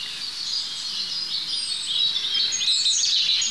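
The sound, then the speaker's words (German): A great tit sings over a steady bed of birdsong, its bright, high, repeated notes rising more clearly toward the end while other chirps and trills continue throughout. No one speaks. “Dahinter die Kohlmeise.”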